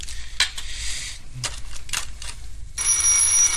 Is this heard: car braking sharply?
no